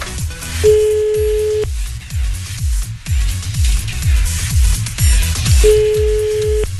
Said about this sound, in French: Allez, attention, le téléphone, il va sonner.